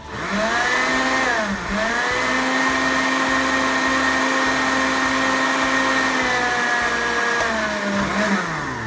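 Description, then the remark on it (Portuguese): A blender runs loud and steady, blending soaked, heated rice to make rice milk, its high motor whine briefly sagging in pitch twice as the thick mixture churns, with no voices over it. “O arroz que foi de molho, que foi aquecido, vem aqui pro liquidificador. E eu vou bater muito bem agora.”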